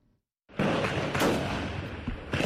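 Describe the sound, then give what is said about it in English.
Heavy gunfire erupts after a brief silence, a dense, loud, continuous crackle with sharper bursts breaking through, harsh, with no voices: a lone gunman exchanging fire with security forces at a police station in Kapenguria, a town in western Kenya. “Residents of Kapenguria, a town in western Kenya, woke up to the sound of gunfire Thursday as an alleged terror suspect killed several officers in a police station.”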